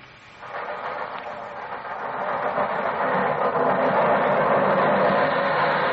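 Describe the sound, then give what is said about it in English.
An underground train rumbles past, running almost level with the windows, a broad, steady roar that swells over the first few seconds and then holds loud and continuous, with faint rhythmic clatter of wheels beneath it. No one speaks. “The underground runs right past here, almost on the level of these windows.”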